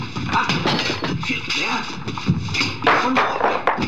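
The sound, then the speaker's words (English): A busy jumble of objects being thrown out a window, with several heavy thuds and a sharp crash of a priceless vase breaking, while voices and movement carry on underneath. “That was no clock, that was a priceless vase.”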